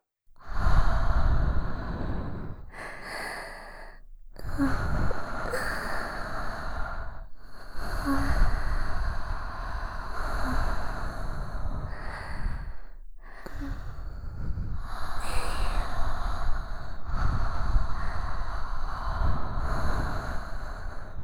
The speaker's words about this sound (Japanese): この生温かい吐息はどう？